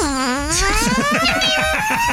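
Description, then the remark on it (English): A voice imitates an electric scooter, making a steady, buzzing whine that climbs smoothly in pitch for about two seconds, like a motor speeding up. “He was riding one of those electric scooters. Oh, nice. I don't think I have the sound of that.”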